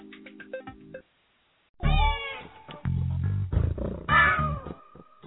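A cat lets out a few loud, drawn-out meows, separated by a brief silence, with low rumbling and clattering tones mixed underneath and no one talking.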